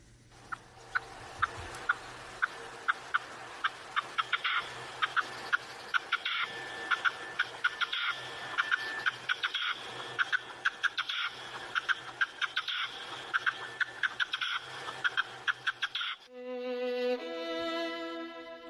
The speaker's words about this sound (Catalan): Doncs, si et sembla, tornem a escoltar el cant de la perdiu roja.